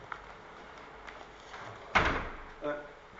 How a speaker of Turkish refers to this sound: kapıyı kapatayım mı? Şunu kapatayım.